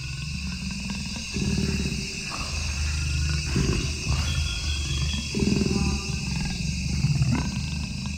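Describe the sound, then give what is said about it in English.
A jaguar breathes right into a microphone on a stand in deep, rasping, low-pitched huffs, about four loud pulses in a slow uneven rhythm, over a steady high-pitched background buzz. No one speaks. “And I turned on my recorder, and all of a sudden, the sound of this jaguar breathing right into the mic.”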